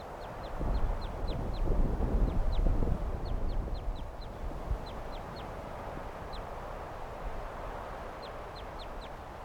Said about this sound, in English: Giving flight calls now.